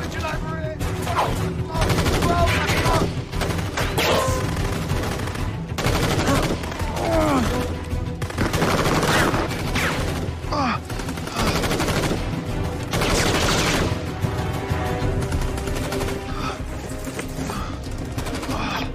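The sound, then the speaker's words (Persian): Sustained gunfire crackles throughout, with dense volleys of shots overlapping in rapid bursts, loud, while voices shout intermittently beneath the shooting; the shooters keep firing after their sniper has been killed. “گوش باشین، تکتیر انداز کشته شده ولی هنوز دارن بهمون شلیک میکنن.”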